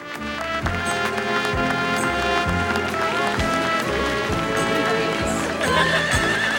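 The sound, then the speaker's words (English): Guido rides Uncle Leo's lime green horse indoors into a party, circling the room: its hooves clop in a steady, loping rhythm, with a whinny rising near the end, all layered over dense, continuous music. “With a broad grin, Guido rides in on Uncle Leo's lime green horse.”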